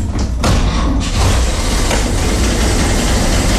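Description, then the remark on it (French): The engine of an old 1950 utility van, which has a pull-knob starter on the engine, cranks briefly and catches, then settles into a loud, steady, low rumbling idle, with no voices. “Ah ben voilà, ça c'est 1950, voilà, c'est les utilitaires de 1950, il n'y avait pas de chauffage, contact, starter. Vous voyez le démarreur, c'est une tirette qui est sur le moteur, hein”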